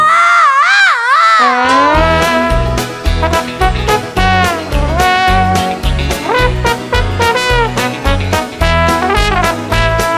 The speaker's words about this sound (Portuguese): Ele deu um grito forte, um grito muito alto.